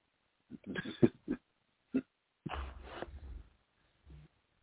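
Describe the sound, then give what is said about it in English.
A small dog sneezes and snorts in a handful of short, sharp nasal bursts with a longer huffing stretch in the middle, fairly quiet, with no voices. “Sounds like a sneeze.”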